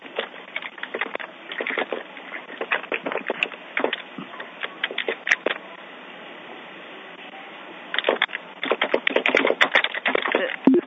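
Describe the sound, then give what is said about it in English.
Rapid clattering keystrokes on a keyboard, typed in bursts with a short pause in the middle, clear with no voices. “Typing should go.”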